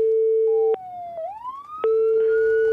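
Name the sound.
police car siren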